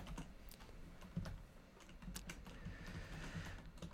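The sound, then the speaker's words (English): Quiet, irregular tapping as someone types out a text message, the soft clicks arriving in uneven bursts against a faint background hum, with no voices. “What are you typing?”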